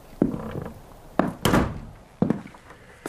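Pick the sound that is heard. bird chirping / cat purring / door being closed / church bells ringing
door being closed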